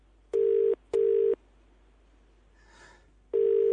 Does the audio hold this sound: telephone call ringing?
yes